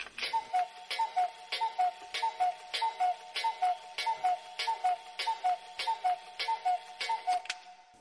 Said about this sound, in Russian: Она не обратила внимания, что часы в большой комнате пробили 12 раз.